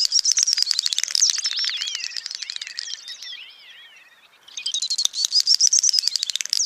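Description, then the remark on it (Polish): A great snipe's display call, recorded on 20 June at 23:10 at night in central Norway: rapid bubbling, clicking chatter with twittering whistles, fading briefly mid-way before a second fast burst resumes, heard clearly against a quiet night background with no voices. “Oto dubelt nagrany 20 czerwca ubiegłego roku w nocy o 23.10 w środkowej Norwegii przez pasjonata ptasich nagrań Nilsa van Doninka.”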